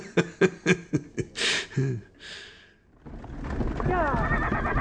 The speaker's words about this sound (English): Yep, we're definitely in a horse carriage. I can smell the shit from here.